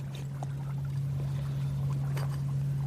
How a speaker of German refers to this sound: Ich liebe halt hier am Rhein auch das Plätschern vom Wasser.